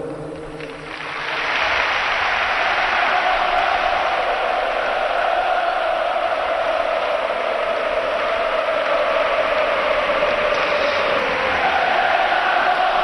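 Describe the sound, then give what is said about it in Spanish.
A huge stadium crowd in the stands roars and chants "Fernando Torres" in unison amid dense applause, a loud, steady wall of sound that swells in after the first second and holds without a break. “Y gritos de Fernando Torres, Fernando Torres. Perdona, Paco, en la grada”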